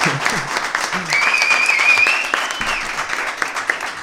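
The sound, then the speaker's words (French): An audience at an evening event in Mende claps steadily for about four seconds, a dense wash of many hands with a few brief whistles and faint voices mixed in. “Le public peut applaudir.”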